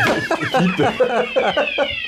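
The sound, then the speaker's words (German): A fire alarm sounds during a drill, a steady high-pitched electronic tone running unbroken through the whole stretch while people talk over it. “Ja, liebe Zuhörerinnen und Zuhörer, das war jetzt die erste Live-Feueralarmprobe”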